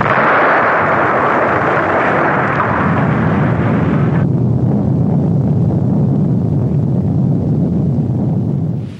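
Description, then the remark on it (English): A huge explosion roars continuously, loud, a dense rumbling blast that fills the whole stretch; its hissing upper edge cuts off midway, leaving a deep heavy rumble. No voices. “It was a hell of an explosion”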